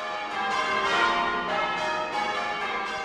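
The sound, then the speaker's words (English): Church bells in Charleston, known as the Holy City, peal together in a dense, continuous wash of ringing tones, with fresh strikes layering over lingering hum. Fairly loud and steady throughout, with no voices. “On Sundays, you hear church bells throughout.”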